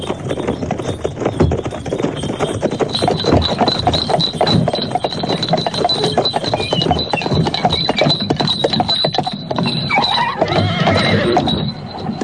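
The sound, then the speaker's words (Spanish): A horse-drawn carriage driven by postilions sets off at a brisk pace, hooves clip-clopping in a steady, dense rhythm while horses neigh and whinny repeatedly, loud throughout, with a faint rattling of the carriage underneath. “Los postillones habían recibido ya instrucciones y se pusieron rápidamente en camino, a un paso rápido, a una buena velocidad.”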